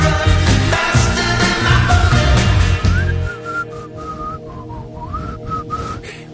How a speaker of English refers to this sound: Ralph Garman whistles the hits. That's not me.